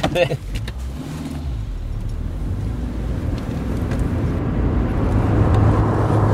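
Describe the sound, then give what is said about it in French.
A somewhat dirty car's engine rumbles steadily and builds as the vehicle pulls away, leaving Marseille, France, for Marignane, and gathers speed, with a brief burst of voices at the very start. “On y va ? On est parti. Bon, la voiture est un peu dégueulasse, hein, mais...”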